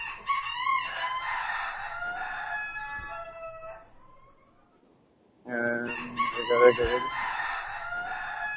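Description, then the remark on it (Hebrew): An agitated rooster crows twice, loud, each call a long harmonic cock-a-doodle-doo, separated by a brief quiet gap of a couple of seconds. “התרנגול עצבני. איזה תרנגול עצבני זה.”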